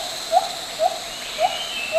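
A white-handed gibbon, a type of small ape, calls in four evenly spaced, rising hoots, each a short upward-sweeping whoop at a steady rhythm, heard over a constant hiss of background noise, with no talking.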